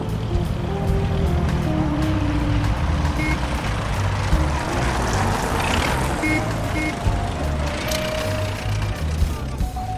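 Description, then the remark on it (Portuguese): Old cars and engines rumble steadily along a busy street, a dense, continuous traffic drone with occasional higher tones and beeps cutting through, no voices clearly audible. “Primeiro, escuta aí o som da rua, dos carros antigos passando.”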